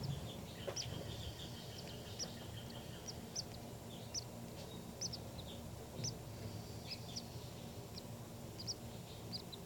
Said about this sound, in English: These are the calls of the baby birds.